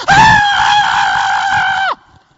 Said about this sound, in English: That was my reaction. And now it's on video for everyone to see. I ran so fast in that house. I screamed. I didn't want anything to do with that snake.